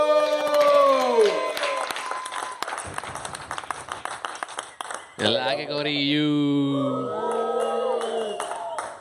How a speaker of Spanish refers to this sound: Vamos a seguirlo con el siguiente comediante que se va a presentar esta noche. Rápidamente nos vamos con el veterano. Fuerte aplauso para